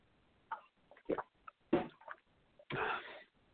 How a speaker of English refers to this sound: And I'll let you grab a pen and a piece of paper, take a sip of some green tea here.